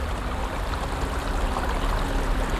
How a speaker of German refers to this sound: Jetzt sind wir wieder bei dem Wirbelast von Jean Dubuffet. Es hat mich sehr überrascht, wie fein die Aare hier klingt. Man hört, dass der Ast mehrere Nebenäste hat. Wir hören mehr als einen Wirbel.